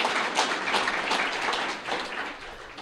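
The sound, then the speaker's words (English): A crowd applauds steadily, a dense, even wash of many hands clapping at once with no pauses, holding a fairly strong level throughout. “Like I say, I don't usually get that type of an applause in Washington, D.C.”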